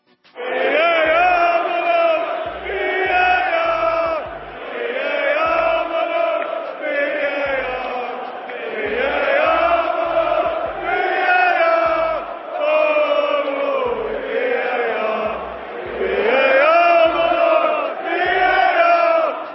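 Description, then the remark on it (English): A large crowd of Tottenham Hotspur football fans chants loudly in unison, singing about VAR, a sustained, rising-and-falling sung refrain punctuated by regular low thumps like a drum beat, continuing throughout. “That was Tottenham Hotspur fans singing their love and appreciation for VAR, which once again was at the center of attention”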